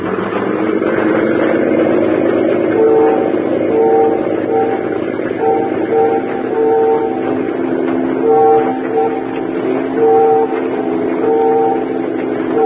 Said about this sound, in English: Those ferry whistles. They're signaling us.